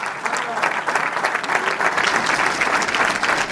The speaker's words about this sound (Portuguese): Aplausos para Luís Montenegro, a falar também sobre essa diminuição da abstenção.